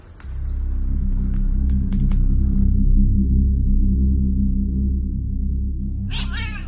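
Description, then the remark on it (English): An old cat yowls and caterwauls in a long, low, droning moan that holds steady throughout, then breaks into a sharper, wavering wail at the very end. Loud, with no talking. “come back, you cantankerous old cat.”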